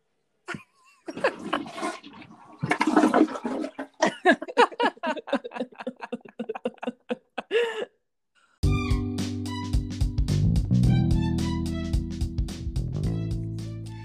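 A toilet flushes with a gurgling, rushing swirl of water lasting several seconds, followed by a loud, steady, rhythmic sound with a low hum.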